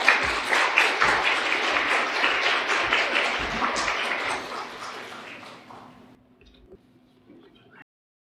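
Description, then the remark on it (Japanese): An audience applauds to welcome a guest pastor, with dense, steady clapping for about five seconds, then the clapping thins out and fades, leaving a few faint taps and near quiet. “それでは先生を拍手でもて歓迎しますかね。”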